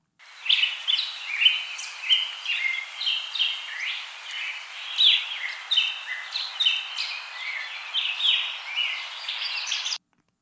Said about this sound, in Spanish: ¡Son pajaritos! Su canto es agudo, corto y débil. Escuchemos con atención. Chip, chip, chip, chip, hace el pajarito.